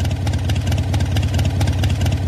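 A Harley-Davidson motorcycle with a V-twin engine idles with a loud, steady, uneven low-pitched rumble, its irregular potato-like pulses continuing throughout with no voices.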